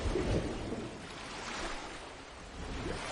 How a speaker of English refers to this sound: I'm going swimming. Maxime watches An leave. An swims in the choppy water.